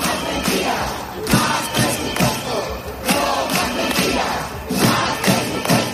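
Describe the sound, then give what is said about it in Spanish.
A loud street crowd of strikers chants and shouts in unison on a march in Madrid from Calle Sagasta to the Real Casa de Correos on a cold Wednesday, voices rising and falling in steady bursts, with rhythmic thumps roughly every second like drumbeats or stamping underneath the chant. “Hoy ha tocado marcha desde la calle Sagasta, donde se reúnen habitualmente con la Consejería de Sanidad, hasta la puerta de la Real Casa de Correos, sede de la comunidad.”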